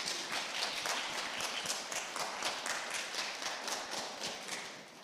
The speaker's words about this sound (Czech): No tolik maminek, skvěle, já si myslím, že se jim sluší zatleskat.